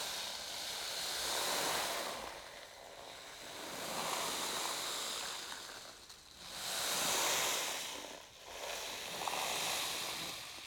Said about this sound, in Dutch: Visualiseer een prachtig wit strand met een heldere blauwe zee. Je hoort het ruisen van de golven.